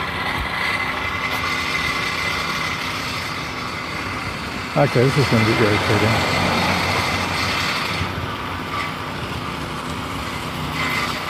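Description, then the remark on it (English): A canary yellow Mustang's engine rumbles loudly and steadily throughout, a dense mechanical roar, while a person speaks briefly over the noise partway through. “I thought, geez, that's a horrible sounding Mustang.”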